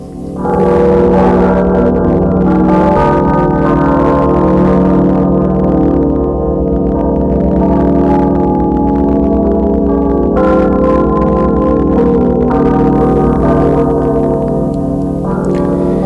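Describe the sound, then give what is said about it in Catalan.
Church bells peal loudly and continuously, with rich overlapping tones that hang in the air and fresh strikes every few seconds. No one speaks. “una vegada han sonat les campanes”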